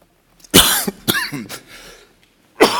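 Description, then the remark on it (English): A person coughs several times, a quick run of three harsh bursts followed by a pause and one more loud cough, with no talking. “Now I'm starting to cough.”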